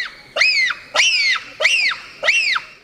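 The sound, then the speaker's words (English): Four shrill, piercing screeches from a bonobo, each rising and falling sharply, repeated in a steady rhythm with no talking. “Those high-pitched screeches are a sophisticated form of communication, and their gestures are unmistakable.”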